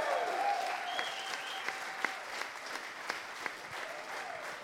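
Steady applause from a festival audience, a dense wash of many hands clapping at a fairly even level throughout, with a few sharper individual claps popping out above the crowd.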